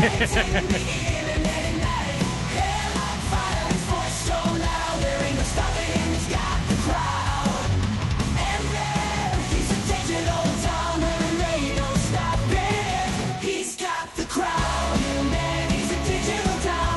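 A loud, dense pop-punk song plays continuously, with screamed vocals over driving distorted guitars and drums, briefly dropping out for a moment near the end before slamming back in.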